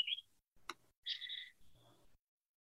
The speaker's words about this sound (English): That bird knows exactly where the microphone is. That's, yeah. It's like, this is my chance to shine.